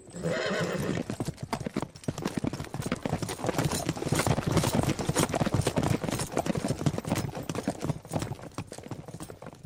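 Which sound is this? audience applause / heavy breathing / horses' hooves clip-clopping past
horses' hooves clip-clopping past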